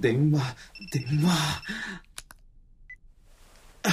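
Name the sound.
telephone ringing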